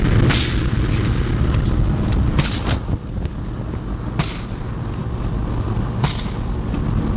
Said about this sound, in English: Good evening and welcome to the Vestech TV Tube Smashing Ceremony. April the 25th, 1992. The explosion.